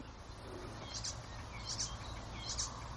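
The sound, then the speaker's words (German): A songbird's mimicking song with blackbird-like and blackcap-like phrases: three short, high chirpy bursts at an even pace, fairly faint over a low outdoor rumble. “Da sind auf jeden Fall in meinen Ohren auf jeden Fall Elemente der Grasmücke, Mönchgrasmücke mit verbaut gewesen, eben nach diesem Amselähnlichen.”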